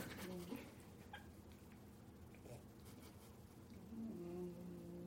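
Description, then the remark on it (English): A female dog snores softly, with a low, droning breath near the start and another longer one toward the end, over a quiet background hum. “She's snoring. It's so cute.”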